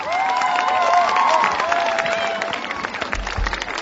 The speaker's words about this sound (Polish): Gorące brawa!